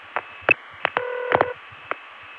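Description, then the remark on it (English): A short burst of telephone ringing from an old cord switchboard line, sharp and buzzy, framed by several loud mechanical clicks and thumps; the phone rings again as the operator pulls her cord out before the caller has hung up. No one speaks. “Every time she pulls her cord out, if I haven't hung up, it starts ringing again.”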